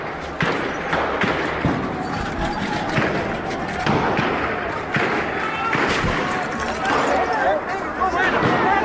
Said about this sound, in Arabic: لكن في نفس الوقت كان في اشتباكات بتحصل عند وزاره الداخليه القريبه من الميدان جدا، والداخليه بتضرب المدنيين برصاص حي وقناصه